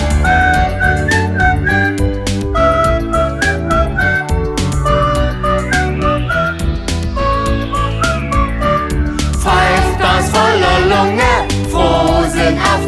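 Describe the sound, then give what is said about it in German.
A whistled melody rises and falls over a loud, busy band accompaniment, the high tune running steadily through the whole stretch without any singing. “Pfeift mit Hochgenuss, alle bis zum Schluss.”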